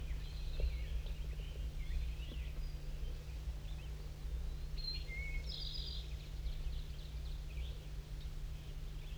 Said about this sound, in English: There's a wild bird in the top of the dead pine. Looks to be a male.